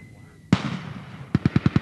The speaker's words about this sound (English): The attack begins with simulated mortars and machine guns.